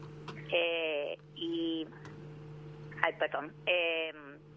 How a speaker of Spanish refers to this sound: Justo me sonaba el teléfono.